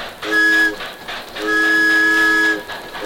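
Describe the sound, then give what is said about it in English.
A steam train whistle on a little circus train, sounded by pulling a rope, blows twice, a short blast followed by a longer, sustained one, loud, with its bright chord-like tone ringing over faint background rumble. “Would you like to blow the train whistle? Well, just pull on this rope.”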